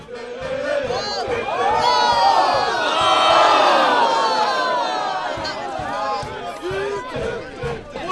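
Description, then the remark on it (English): A football crowd at the Spotted Dog ground roars and cheers at a non-league match between Clapton Football Club and FC Romania, many voices overlapping in shouts and whoops that swell loudly in the middle, then settle into a steady babble of chanting and calling out. “We went down to the Spotted Dog ground to watch Clapton Football Club play FC Romania.”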